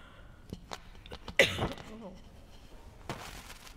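A sudden harsh cough from someone with a cold, whose voice is going while reading aloud, bursts out loudly, followed a moment later by a softer second cough, with faint vocal sounds and quiet shuffling around them.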